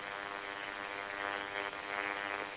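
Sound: airplane flying overhead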